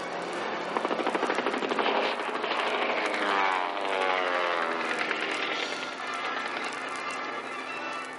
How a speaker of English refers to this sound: behind us, a plane. They're shooting at us. And hitting us.